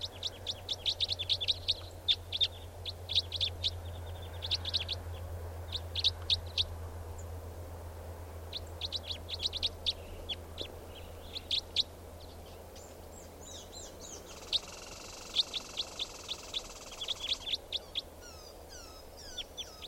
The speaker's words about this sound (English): Type 4 birds are all calling now, just perched in the tree, they're going to take off.